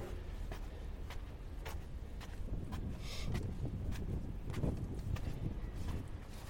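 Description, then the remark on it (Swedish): Steady footsteps, about two per second, tapping on a hard outdoor surface while walking up along a slope towards a palace, with a low rumble of wind and ambient noise underneath and no one talking. “Och nu går jag upp längs med brinken här mot slottet.”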